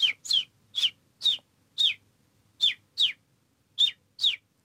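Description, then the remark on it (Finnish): A person imitates a house sparrow with about nine short, bright chirps in an uneven rhythm, clear, with no talking around them. “No mutta nyt ehkä joku pieni näyttö. Mitäs me toivottaisiin, …, että …? No ehkä se varpunen”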